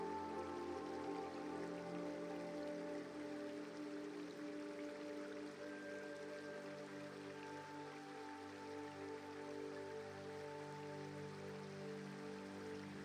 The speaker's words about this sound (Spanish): Y cuando estás trazando un nuevo sendero y cuando de nuevo vuelves a estar fundiéndote entre la naturaleza, descubres un bonito río. Echas a andar a orillas del relajante río.